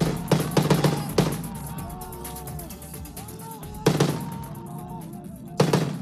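A quick burst of several loud gunshots, then two more sharp single shots a few seconds apart, with faint shouting voices and crowd noise underneath: Syrian rebels shooting down a government helicopter on a Tuesday in northwest Syria.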